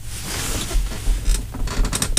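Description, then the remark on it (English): A chair creaks and clicks several times in quick, irregular bursts, fairly loud, with brief cracking snaps toward the end and no voices. “It's just the chair.”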